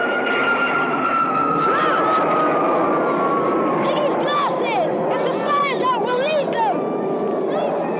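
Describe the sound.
A propeller plane drones steadily overhead, its pitch sliding slowly downward as it passes, while high, warbling calls and shouting voices rise over the engine noise in the second half.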